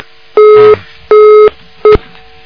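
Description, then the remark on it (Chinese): A phone disconnect tone after a long-distance call-in phone call is hung up because the caller could not be heard: loud, steady electronic beeps in an even on-off rhythm, two full pulses and a third cut short, with no one speaking. “喂，喂，哎呀，没办法，真的不好意思了，台长只能把你电话挂了，你待会儿只能再试试看了，因为这个。”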